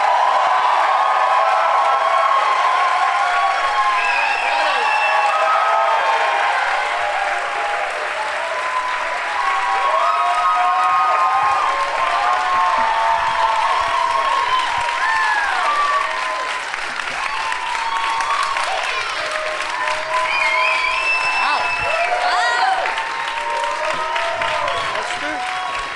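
A studio audience applauds steadily for the whole stretch as the show's guests are welcomed, loud dense clapping layered with many voices whooping, cheering and yelling over it without pause.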